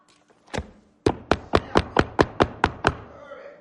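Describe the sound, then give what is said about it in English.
Knocking on wood, fairly loud: one knock, a brief pause, then a quick, steady run of about nine more raps with no talking over them. “Now, if you knock,”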